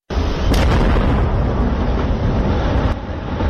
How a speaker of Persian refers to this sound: صدای انفجار بارود در یکی از معادن نورستان بود که یک تاجر سنگهای قیمتی و نیمه قیمتی از شرق افغانستان آن را با رادیو آزادی شریک ساخته بود.